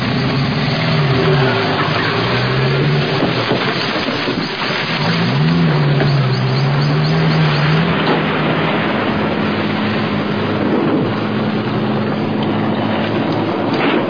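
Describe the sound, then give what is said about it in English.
A car roars as its tires screech and skid in two long, wavering squeals near the start and middle, over steady loud road and engine noise. No one speaks. “Talk about brakes.”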